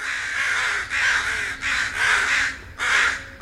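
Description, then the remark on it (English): A crow caws four times in quick succession, each call harsh and raspy with brief gaps between, loud with no other voices. “Surprisingly, out of the 810 species of North American birds, there are only two that are completely black, the American crow and the common raven.”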